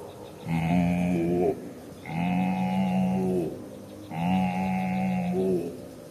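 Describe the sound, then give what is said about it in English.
A voice imitates a cow mooing three times, each drawn-out, low, droning call lasting over a second, separated by short pauses, loud with no other talk. “And with the cow, I learned how to make the sound.”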